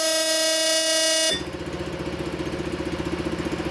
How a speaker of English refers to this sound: For such occasions, Johnny has installed a horn, essential in such a small boat, so that other craft definitely know you're there.